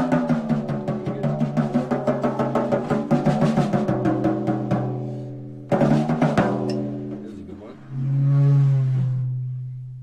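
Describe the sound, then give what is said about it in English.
Eerie, ringing metallic tones from a cymbal played with a bow as a Foley sound, first pulsing in quick repeated swells, then sustaining and sliding in pitch like whale calls. Fairly loud, with no talking. “It sounds like whale music or something.”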